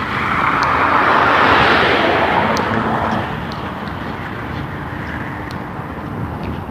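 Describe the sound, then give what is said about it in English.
Road traffic rushing by, about six cars in a row at the morning commute hour: a loud whoosh of a passing car swells and fades, followed by a steady rumble of more vehicles continuing past, with no talking. “I usually don't get exhaust smell, but probably 6 cars in a row here.”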